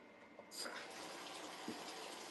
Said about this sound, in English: Okay, I'm gonna turn the water on. I'm sorry if it's really loud.